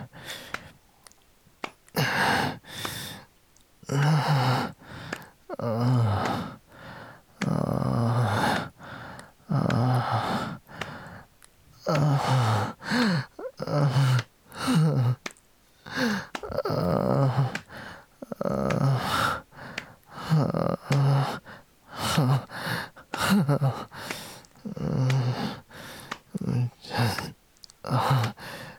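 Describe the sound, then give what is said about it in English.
Heavy breathing and gasping from a person concentrating on their breathing, in repeated ragged bursts with short pauses between them, strained and voiced at times, running steadily for the whole stretch. “Concentrating on breathing.”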